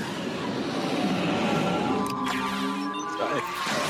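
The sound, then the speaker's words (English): Loud race car engines rev up together in a continuous roar, with a sharper rising whine breaking through partway and a layered, buzzing drone to the end. “Yeah, there's a lot more engine shots of engines gearing up, like a lot more.”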